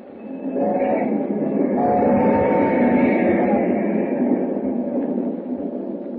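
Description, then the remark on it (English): A train rumbles steadily along the tracks at night, a loud continuous roar with rhythmic clatter and a faint metallic whine, swelling in after the first half second and holding throughout. “As the train roars into the night, he and Hu Ling talk softly.”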